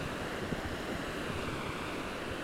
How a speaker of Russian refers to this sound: Да, и звук зимнего моря чуть-чуть отличается от того, что ты ожидаешь услышать, от летнего моря.